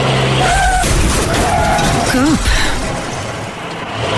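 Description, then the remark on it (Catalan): A car roars loudly, with a rumbling, noisy rush and a brief whining sweep, lasting a few seconds before easing slightly toward the end. “Cotxe.”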